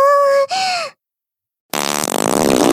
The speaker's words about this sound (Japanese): おならすると、お尻の穴も、お股も、キューンってなっちゃうの。